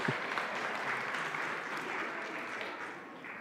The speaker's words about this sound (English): Give yourselves a clap for keeping up with it.